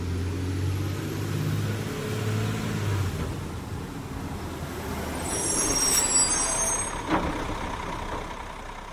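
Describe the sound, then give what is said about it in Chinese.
A large sleeper bus engine, on a long ride to a mountain scenic area, rumbles and idles low, then a sharp hiss of air brakes releases, followed by a brief clunk as the engine keeps running. No one speaks. “因为这里地处山区，还没有完全被开发，所以交通状况自然也不是太好，来往都需要乘坐不少时间的卧铺大巴才行。”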